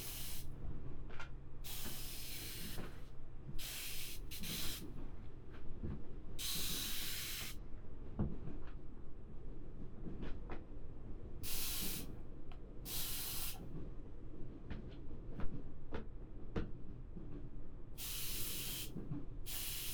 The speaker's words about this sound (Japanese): こうやって泡に触れるとパチパチしてちょっとくすぐったい。